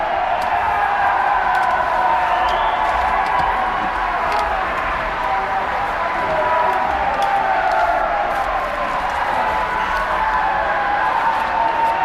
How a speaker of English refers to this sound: We would have to clear the gallery if clapping continues. I would order it if necessary.